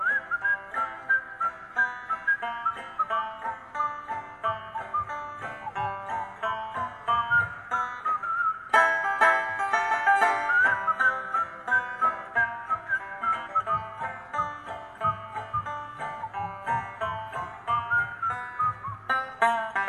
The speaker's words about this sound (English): Anybody know how to whistle?